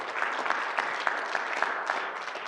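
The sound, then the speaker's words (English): A church audience claps steadily together as a clap offering to God, a dense, continuous wash of applause with sharp individual claps popping out of it, sustained at an even level throughout without any voices. “Come on, can we give up a clap offering to God this morning?”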